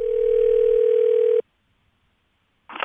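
A steady electronic telephone tone hums loudly for over a second as a phone call is placed, then cuts off abruptly into silence before a brief burst of sound at the very end.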